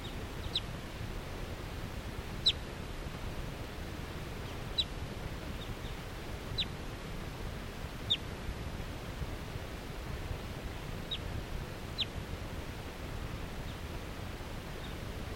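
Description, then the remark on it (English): A wild female bird gives short, high-pitched circling calls as it comes down and looks at captive birds, repeated every second or two, over a steady low rumbling hiss. No one speaks. “Circling calls of that wild female.”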